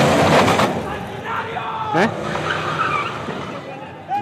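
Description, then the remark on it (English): Near Tijuana, a protester's car engine roars as he rams it into a column of police during riots over a gas price rise, amid screeching tires and a noisy, chaotic crowd. Voices shout over the din, and a brief sharp burst cuts through midway. “Near Tijuana, a protester rammed his car into a column of police.”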